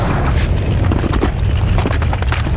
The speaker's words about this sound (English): Another earthquake?